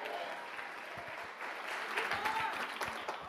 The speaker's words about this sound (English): If you believe that, give the Lord a hand clap one more time.